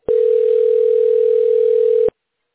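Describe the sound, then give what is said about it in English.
A steady telephone dial tone, heard while placing a call to a tax specialist, hums at one constant pitch for about two seconds, loud, starting and stopping abruptly with nothing else heard. “Yeah, I'm just calling right now the tax specialist so they can give you a call.”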